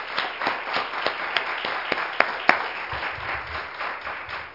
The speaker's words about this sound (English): If we could we just give the whole church a hand clap? Our youth, our adults.